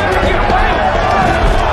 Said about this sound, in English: But look, we're literally punching him.